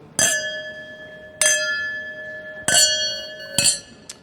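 Champagne glasses clink together in a toast, four bright strikes about a second apart, each leaving a clear, high ringing tone that lingers, followed by a faint extra ting. No one speaks.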